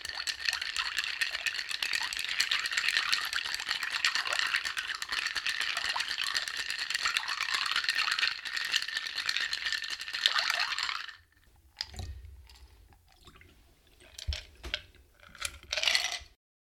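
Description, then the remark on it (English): Ice rattles and clinks steadily in a mixing glass as it's stirred 40 times for a clear cocktail, a dense, bright jingle that runs for about eleven seconds before breaking into a few scattered, softer clinks. “All right, I'm adding ice. And because it's clear, I'm going to stir 40 times.”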